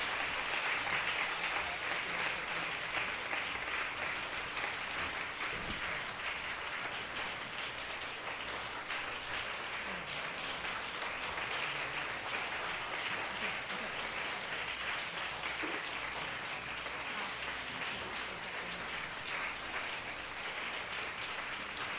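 An audience applauds continuously for about twenty seconds, a dense, steady wash of many hands clapping at an even loudness with no clear pauses, welcoming 20 couples onto the stage at a church service where they renew their marriage vows.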